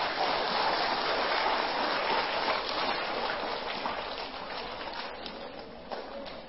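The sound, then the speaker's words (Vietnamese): A crowd at a Sunday gathering at a Buddhist temple claps in a big, dense round of applause, a steady crackling wash of many hands that holds for several seconds before tapering slightly toward the end. “Dành một tràng vỗ tay thật lớn.”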